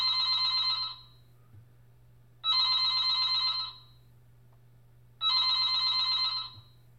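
telephone ringing

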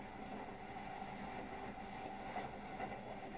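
train interior rumble

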